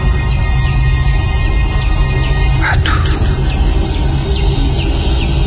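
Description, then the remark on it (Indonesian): Baby chicks peep in a steady series of short, high, downward-sliding chirps over a constant low rumble, with a brief spoken exclamation partway through. “Namun tak lama berganti dengan suara anak ayam.”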